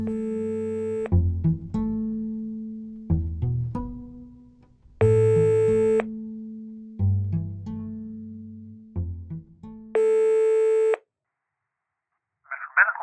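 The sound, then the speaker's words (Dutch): A phone's ringback tone while placing a call to a lawyer sounds three times, each steady beep lasting about a second and spaced several seconds apart, with a low hum and faint clicks filling the gaps. “Daarom probeer ik contact op te nemen”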